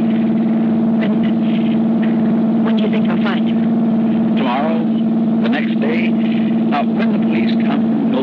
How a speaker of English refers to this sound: What's wrong? I don't know. The motor's missing. We're stopping.